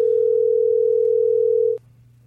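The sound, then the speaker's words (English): A steady, loud telephone dial tone hums continuously for almost two seconds, then cuts off abruptly, leaving only a faint low background hum. “Oh, that's just the, you know, our phones are doing that again.”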